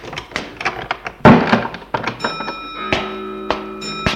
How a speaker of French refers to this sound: Ils entrent. Elle ferme la porte.